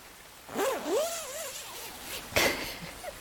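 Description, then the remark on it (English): A sleeping bag zipper is drawn up in one long rasping pull with two people inside the bag, then a brief sharp tug near the end, with soft fabric rustling around it. “Now zip us back up.”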